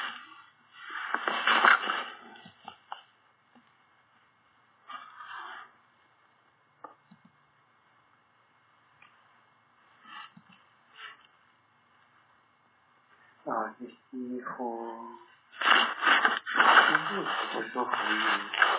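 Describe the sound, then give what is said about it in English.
Deep, audible breaths drawn in and pushed out, with long quiet pauses between them, followed by a brief stretch of talking and a final long, forceful exhale. “Breathing deeply and breathe out.”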